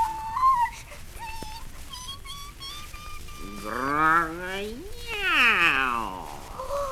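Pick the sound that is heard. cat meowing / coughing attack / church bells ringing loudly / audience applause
cat meowing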